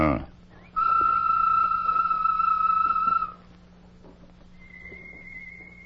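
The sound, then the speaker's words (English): Tonto whistles a bird call in a Lone Ranger story: one loud, steady, sustained note lasting a couple of seconds, then after a pause a fainter, higher whistled note answers. “Give a bird call, Tonto.”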